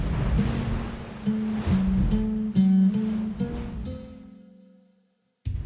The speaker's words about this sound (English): Oh, look at that. The river is parting.